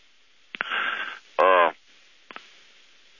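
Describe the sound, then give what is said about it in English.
A loud cough burst from a man whose allergies to mold and mildew from heavy rain have stopped him up, first breathy and rasping, then a harsher voiced cough, followed by a couple of faint clicks and quiet background hiss. “We're having to take cough breaks.”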